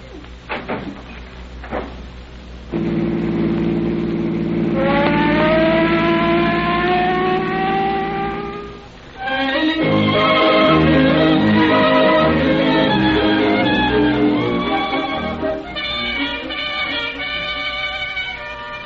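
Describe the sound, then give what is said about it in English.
A few knocks, then an engine's low drone as a police car siren is pulled open all the way, winding up, climbing in pitch, and breaking into a loud, sustained wail that carries on to the end. “Will you pull the siren open all the way?”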